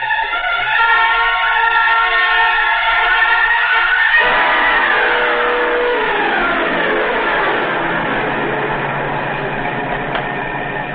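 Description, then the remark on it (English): A car engine roars and revs as the vehicle speeds along an empty stretch of road, closing up on another car, its pitch climbing and sweeping as it accelerates hard, loud throughout with no talking. “Well, here's a good stretch of road. Not another car inside. Move up on him now? Yeah, step on it.”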